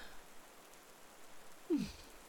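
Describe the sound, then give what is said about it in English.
Soft, steady rain hisses quietly in the background, a faint continuous patter with one brief louder splash or thump near the end. “But I cannot blame the rain for my drowsiness.”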